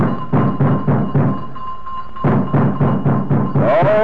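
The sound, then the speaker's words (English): Two policemen thump heavily and rapidly on the front door of a house in two bursts with a short pause between, while a thin steady ringing tone from the doorbell they ring hangs underneath; a brief chiming sound enters near the end. “For 5 minutes or more, they rang the bell and thumped on the front door.”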